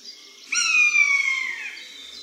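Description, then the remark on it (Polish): A single mewing call of a male common buzzard, alarmed near its nest, lower and shorter than the female's, harmonic and gently falling in pitch, rings out clearly for about a second after a faint earlier cry, with no talking. “Niższy i krótszy to głos samca, który nie jest tak odważny w stosunku do dużych drapieżników.”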